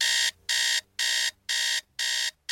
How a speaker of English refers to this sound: I jumped and shot my head around behind me to evaluate the sudden noise in my bedroom. It was my alarm going off.